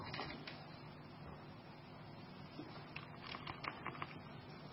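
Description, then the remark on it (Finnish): Quick, irregular clicks of keys being typed on a laptop's own keyboard, operating a virtual machine on the computer, fairly quiet, growing busier toward the end over a low background hum. “No ei hätää, se näköjään toimii tuolta läppärin näppäimistöltä, se ei toimi tuosta etänäppäimistöltä.”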